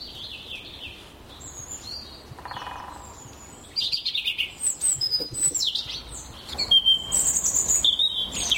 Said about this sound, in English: Yeah, that's a typical robin song.